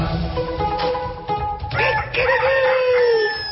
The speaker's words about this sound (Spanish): ¡Qué lindo el gallo! Hay varios gallos en Córdoba, ¿eh? ¡Sí! ¡Córdoba, loco! En Córdoba te despiertan los gallos. Te despierta el gallo, loco, es precioso.